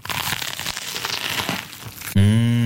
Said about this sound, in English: Mmh, crunchy, kross und saftig. Warte, das ist vegan?